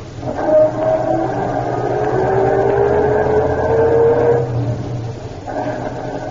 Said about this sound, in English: All right, I'll start our car and see what he does.